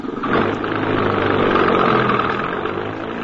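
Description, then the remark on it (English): An empty truck's engine runs with a steady, heavy rumble, loud, holding a constant level for a few seconds as it is driven away to the garage, with no voices. “Drive it over to the garage.”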